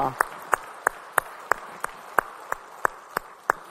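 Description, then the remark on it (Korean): A church audience claps together in a steady, even rhythm, giving applause of glory to the Lord after praise singing, about eleven sharp claps in quick succession, moderately loud, with a faint murmur of background noise between them. “우리 찬양 받으신 주님께 영광의 박수 올리겠습니다.”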